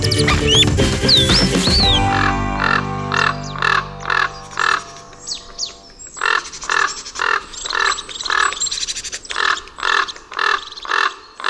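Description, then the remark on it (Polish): A common raven calls repeatedly, starting with a loud, rasping burst and continuing in a steady series of hoarse, croaking caws, with no talking. “Kruk to jest znowu gatunek rzeka.”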